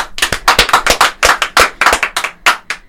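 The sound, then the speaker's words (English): A short burst of loud applause for a DJ's first set of the semester on WRUV 90.1 FM radio in Burlington, with quick, uneven hand claps overlapping for about three seconds, as if from a small group. No one speaks. “Everybody applaud.”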